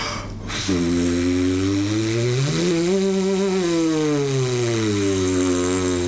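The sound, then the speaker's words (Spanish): A brass player free-buzzes with the lips alone, holding a low, raspy tone in the low register, then sliding upward in pitch toward the high register and gliding gradually back down, one continuous rich buzz with no talking. “Esto es hacia el registro grave y ahora vamos hacia el registro agudo.”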